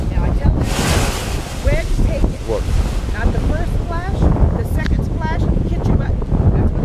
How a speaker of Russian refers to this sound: Вы видите, друзья, вот тут такая металлическая штука, в ней дырки. И она так периодически как выдыхает. Но это когда волной в нее бьет, и она такой звук издает очень интересный.